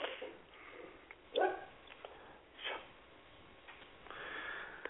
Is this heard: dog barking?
yes